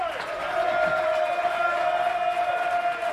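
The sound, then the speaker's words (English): A large church audience cheers loudly and steadily for a few seconds to welcome a guest called up to the front, a dense wash of voices with one high sustained whoop riding above the crowd noise. “You carry around your own little cheering squad.”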